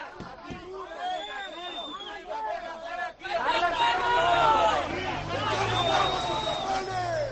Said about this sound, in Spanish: Es el sonido en directo de la llegada de los dos autocares desde Villarreal. Y estos son los gritos de los seguidores.